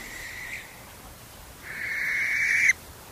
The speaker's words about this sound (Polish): No, właśnie Państwo słyszycie płomykówkę.